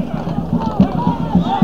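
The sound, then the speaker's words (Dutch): Horses' hooves clip-clop along in a steady, quick rhythm as horses arrive at a street scuffle where people are being pushed, the sharp strikes fairly clear, with murmuring voices and background bustle underneath. “Ah, paarden.”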